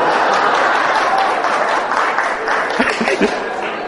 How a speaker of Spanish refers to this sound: Aquí aclaran que los que aplaudieron fueron los hombres.